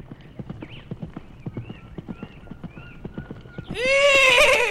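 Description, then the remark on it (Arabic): Steady, rhythmic hoofbeats clip-clop along for several seconds, then a loud horse whinny bursts in at the end with a high, quavering tone, the horse calling out in the morning. “وعند الصباح سمع الدب الحصان وهو ينادي عليه؟”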